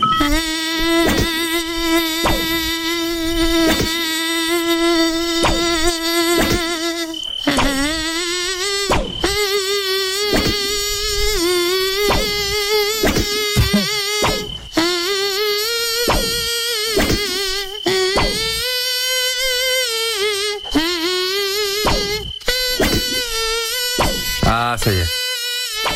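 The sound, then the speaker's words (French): A voice in a studio imitates a mosquito, humming a tune as a nasal, reedy buzz. The whine is loud, rising and falling in pitch for the full stretch with only brief breaks. “On en a un, nous, dans le studio, alors il pique pas, je vous rassure, il chante.”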